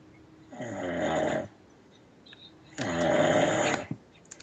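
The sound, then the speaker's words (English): A man's wife snores at the other end of the room from him, twice in a slow rhythm, each long, loud, rasping breath rattling for about a second, with a quiet pause between them and no talking. “Is she sawing logs right now?”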